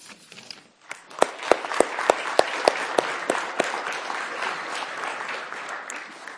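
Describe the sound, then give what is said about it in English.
An audience breaks into steady, full applause for five people, with a few sharp, loud claps standing out in a regular rhythm before blending into the sustained clapping of the crowd. “And as they do, let's just give a round of applause for all five.”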